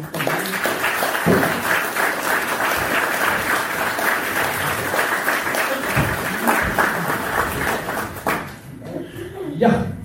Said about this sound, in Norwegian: Da har jeg lyst til å gi Preben Aavitsland en liten applaus fra dere.